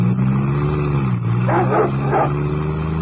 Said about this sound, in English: That sounded like the Hound of the Baskervilles. Guard dogs. They run loose in the grounds.